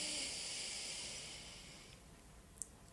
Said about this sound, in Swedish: Så vi börjar med att ta ett djupt andetag in genom näsan. Håller lite lätt. Och öppna munnen och andas ut. Ta ett andetag till in genom näsan.